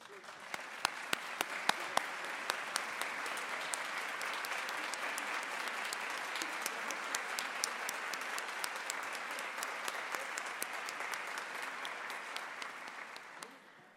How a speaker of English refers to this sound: While they're taking a photo, if I can ask everyone else who works in any of the business service centers or transaction centers who might be here today just to stand up so we can applaud you.